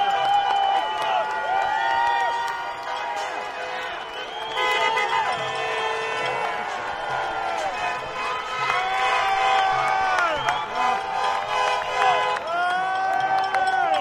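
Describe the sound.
A dense, continuous street crowd, celebrating and drinking openly, roars and chatters with overlapping shouts and cheers, many voices rising and falling in excited bursts throughout, steady and loud from start to finish.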